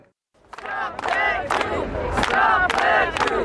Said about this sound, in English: Car horns toot as demonstrators wave, sing and chant anti-Brexit slogans.